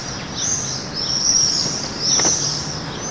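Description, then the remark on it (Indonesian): Swifts give shrill, buzzing screams in three quick bursts overhead, over a steady hiss of outdoor background noise with no one speaking. “Kami sekarang memiliki lebih dari 70 pasang burung walet dalam populasi 800 orang.”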